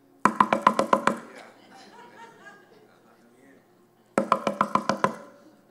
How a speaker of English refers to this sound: Nobody ever in the history of a knock at a door has ever knocked like this. Anybody in the history of knocking, if you're like me, you're knocking like this.